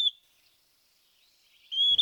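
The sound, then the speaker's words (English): A pewee, a little flycatcher, sings thin, slurred whistles off to the right: one brief note at the start, then after a pause a longer drawn-out whistle near the end, clear with no talking. It is in an area of green meadows and mid-sized ponderosa pines at the start of the breeding bird season. “We hear a pewee off to the right, which is a little flycatcher singing.”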